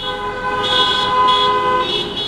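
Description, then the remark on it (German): About 250 taxis honk together as they drive through Stuttgart city centre in a protest against fare dumping, a loud, continuous blare whose overlapping tones swell slightly as they hold for a couple of seconds, with no voices. “250 Taxis fahren hupend durch die Stuttgarter Innenstadt und protestieren lautstark gegen Fahrpreisdumping durch große Internetfahrdienste wie Uber oder Bolt, klagt dieser Taxifahrer.”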